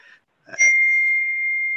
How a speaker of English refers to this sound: there's a bell.